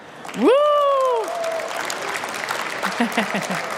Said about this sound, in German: Wir sind auf einer Reisemesse und damit ihr auch merkt, dass wir ein sehr, sehr liebes Publikum vor uns haben, macht mal alle Lärm.